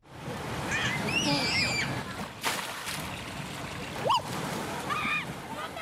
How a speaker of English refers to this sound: It's a sight you don't expect to see in a place where the city administration has asked residents to use no more than 50 litres of water each a day. Children careening down gushing slides into pools of fresh water. This is Water World, a fun park